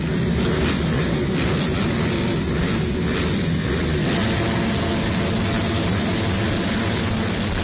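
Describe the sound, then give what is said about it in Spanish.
Motocross motorcycle engines roar continuously and loudly throughout, a dense, gritty drone with slight surges in the first few seconds, with no voices. “Y lo vamos a hacer con el sonido de los motores de motos, de motocross.”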